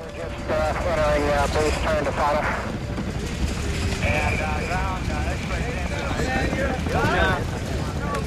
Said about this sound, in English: Afghanistan, a Chinook helicopter skims the snow-capped mountains. Infrared light illuminates the inside of the chopper.